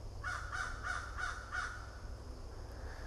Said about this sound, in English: I like listening to these crows talk to each other back and forth this morning.